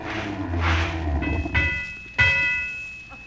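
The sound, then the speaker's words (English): A streetcar rumbles in with a low, heavy roar, then its bell rings out three times, the last strike loudest, ringing on briefly as the rumble settles. “I'll run along beside the car and catch you when you're thrown out. Don't be like that. Stand back. Here she comes now.”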